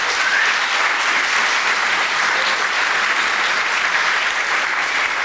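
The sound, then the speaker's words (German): An audience claps steadily for about five seconds, a dense, even wash of many hands at a constant loud level with no voices rising above it, applauding a group for how cool they look. “Können wir mal einen Applaus machen, wie cool die aussehen?”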